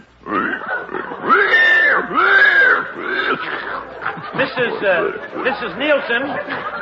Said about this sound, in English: Let us go over and visit with her while she is feeding her pig.